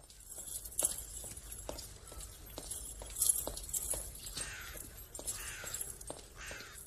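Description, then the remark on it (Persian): Quick, evenly spaced footsteps of a person walking toward the door of a hay barn knock against a hard floor, about two or three per second, with a faint airy hiss behind them and no talking. “یک لحظه مکس می کند و سپس بر می گردد و با قدم های تند به سوی در انبار می رود.”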